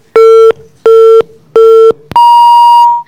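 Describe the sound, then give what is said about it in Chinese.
Three loud, evenly spaced telephone line beeps at a steady low pitch, followed by one longer, higher-pitched tone that holds for about a second, as a listener's hotline call is taken. No voices, just the clean electronic tones. “接下来呢来让我们接听一位听众朋友的热线电话。”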